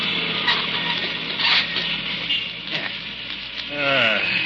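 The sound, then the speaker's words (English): A steady rushing, crackly noise runs throughout, broken by a few brief scraping bursts, then a rising squeal near the end as the glass partition between driver and passenger in a taxi slides shut on a winter evening. “Do you mind if I shut this glass partition between us?”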